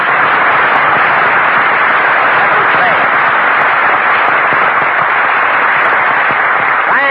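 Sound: studio audience applause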